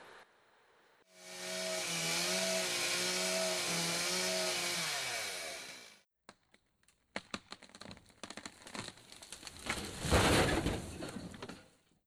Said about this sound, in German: Dafür werden ständig große Mengen an Bäumen gefällt, weil wir in sehr vielen Bereichen Papier nutzen.